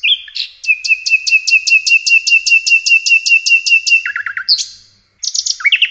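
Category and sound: bird, nightingale song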